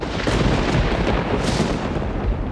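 A loud thunderclap with a sharp crack partway through, surrounded by heavy, continuous low rumbling that fills the whole moment, as a great lightning bolt flashes in the temple of Zeus. No voices are heard.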